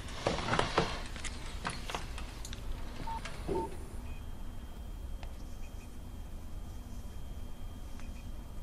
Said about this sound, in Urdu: اس کا نمبر ملا اور فون مجھے دو.